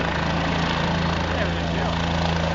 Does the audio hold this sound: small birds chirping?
no